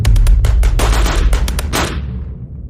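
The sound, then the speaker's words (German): A short, rapid burst of machine gun fire from the direction of an armoured vehicle circling helicopters, sounding like an MG-42. About a dozen sharp cracks come in quick succession over a heavy low rumble, ending after two seconds and trailing off into a fading echo. “Aus Richtung eines dieser Fahrzeuge hörte ich einen kurzen Feuerstoß, der sich anhörte, als käme er aus einem MG-42.”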